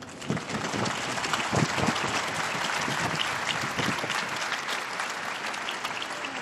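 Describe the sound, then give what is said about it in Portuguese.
Sustained applause from a large crowd honouring a newly beatified woman, a dense, steady wash of clapping that holds an even loudness throughout, with a few sharper claps standing out early on. “Um aplauso à nova Beata.”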